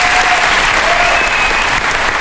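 Dense, steady applause from a large festival audience welcoming actor Fabrice Luchini onto the stage fills the whole moment, a continuous wash of many hands clapping at once, loud, with no voices standing out.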